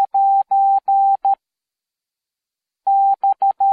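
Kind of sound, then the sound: signal or alarm, morse code beeps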